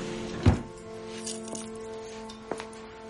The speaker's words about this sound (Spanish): Coge la bolsa, abre un cajón. Saca unas llaves y cierra el cajón.